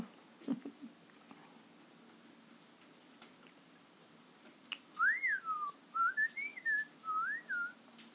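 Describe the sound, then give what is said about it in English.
A person whistles a quick series of warbling, swooping chirps that mimic a beeping robot, clear, after several quiet seconds with a few faint clicks. “That's my R2-D2 impression.”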